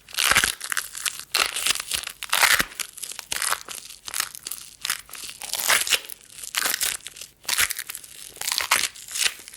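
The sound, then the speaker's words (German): Continuous crackling and crinkling of fabric tape wrapped sticky side out around the hands, its two adhesive surfaces pressed and pulled together, with irregular bursts of sharp crackle and brief pauses, no voices. “Und gehe jetzt mit beiden Klebeflächen aneinander.”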